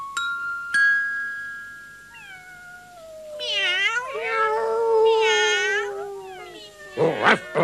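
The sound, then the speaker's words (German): A chorus of at least 100 cats sitting on a garden fence, meowing and yowling at once, their drawn-out, wavering cries overlapping loudly for several seconds, preceded by a brief ringing tone and ending in a sudden clatter. “Am Gartenzaun hocken mindestens 100 Katzen.”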